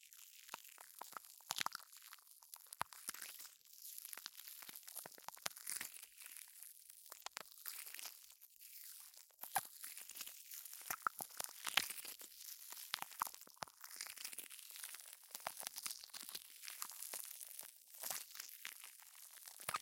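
Steady fizzing of foaming carbonated bubbles, a dense, crackly hiss full of tiny pops that bursts in quick irregular clusters for the whole stretch, with no voices.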